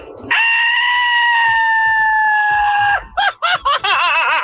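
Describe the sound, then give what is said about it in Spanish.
A traditional Mexican grito for Mexican Independence Day: one voice holds a loud, piercing festive yell for about three seconds, then breaks into a rapid, warbling trill of short rising-and-falling cries. “ahí les fue el grito de Pedro Infante, a ver si me sale”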